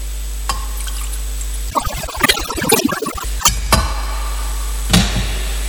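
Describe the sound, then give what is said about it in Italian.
During a Mass, a brief splash of water is poured into the wine in a chalice, a short gurgling trickle lasting a couple of seconds, followed by light clinks and a quiet steady hum in the background. “L'acqua unita al vino sia segno della nostra unione con la vita divina che l'ha voluto sommo la nostra natura umana.”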